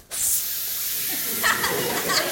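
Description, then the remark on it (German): A breathy, whooshing wind sound made by blowing through the mouth, a steady hiss that starts abruptly and holds for about two seconds, swelling slightly a couple of times. “Wir brauchen noch Wind. Das Zeichen für Wind ist so.”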